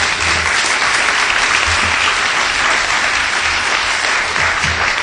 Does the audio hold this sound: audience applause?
yes